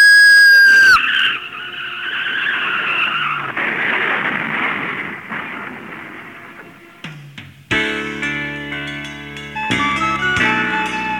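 In the rain, a car's tires screech into a long, harsh skid lasting several seconds, then a loud crash of crunching metal and clattering, ringing debris that keeps rattling to the end.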